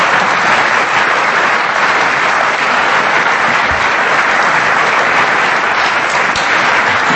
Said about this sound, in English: So give the gentleman a round of applause, everybody. Thank you.